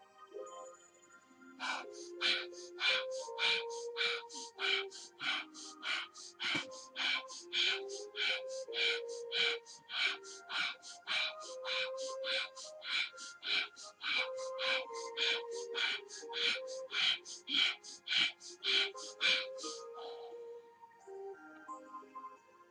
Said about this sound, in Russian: И еще раз, третий раз дышим.